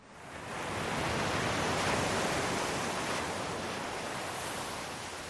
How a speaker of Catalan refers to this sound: Doncs sí, perquè són les onades, en aquest cas, de Santa Cristina, que és una platja fantàstica, la Lloret de Mar, és una cala molt maca